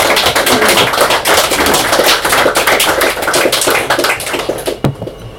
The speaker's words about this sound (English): A drink of water now.